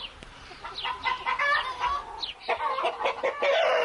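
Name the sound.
hen clucking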